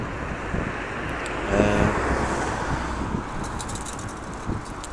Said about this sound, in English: And somebody's just gone past me on a very rattly push bike.